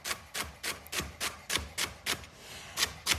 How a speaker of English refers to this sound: And we want pretty small pieces here. We have two celery stalks. Okay, so you want to just run your knife through it so that it's pretty small.